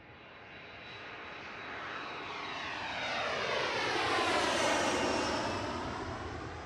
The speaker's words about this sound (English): I'm on a plane to Dubai